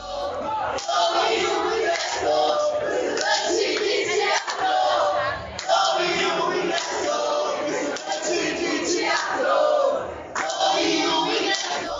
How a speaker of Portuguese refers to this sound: Os alunos de teatro, principalmente, se reúnem todos na entrada do Teatro Guaíra e entoam o seu grito de guerra.